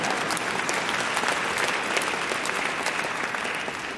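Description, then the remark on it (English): An audience claps steadily for about four seconds, a dense, even wash of many hands with no voices standing out. “God, yeah, you can even clap if you want here.”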